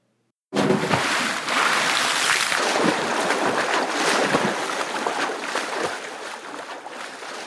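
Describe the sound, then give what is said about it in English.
Broad, rushing water noise starts abruptly and continues steadily, like churning sea waves washing in, with no voices present. “Come, my nephew, let us change ourselves into two hippopotamuses and plunge into the depth in the midst of the sea.”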